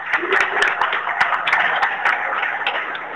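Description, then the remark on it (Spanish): A crowd applauds leather artisan Narciso, honoured for his repoussé leatherwork, at an artisans' recognition event with the mayor present. It is a dense wash of many hands clapping at a fairly loud, even level, with a few sharper individual claps popping out over the roar. “Un fuerte aplauso para Narcito.”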